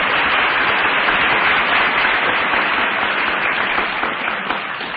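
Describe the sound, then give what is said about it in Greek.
Steady, dense applause from a crowd, many hands clapping at once in a loud continuous wash that holds for several seconds before easing slightly at the end. “Μάλιστα κύριε, δεν με ενθουσιάζουν τα χειροκροτήματα, με ενθουσιάζει η πράξη και η εφαρμογή.”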